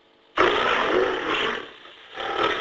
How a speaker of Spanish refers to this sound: Esto es un león. Efectivamente, es muy buena. Oh, te hemos oído. Un león, sí, señor.